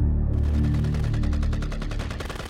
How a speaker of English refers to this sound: Bridget heard the detonations of rounds cycling through different weapons